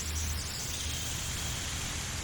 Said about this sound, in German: Du guckst nach oben und blickst auf eine wahnsinnige Vielfalt von Grün und dabei lauschst du der einmaligen Geräuschkulisse des Regenwaldes.